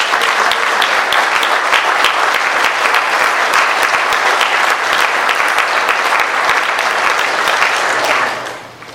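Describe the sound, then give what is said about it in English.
A crowd applauds David steadily for about eight seconds as the session wraps up, a loud, dense wash of many hands clapping, before the clapping tapers off quickly at the end. “So let's give David a round of applause for him.”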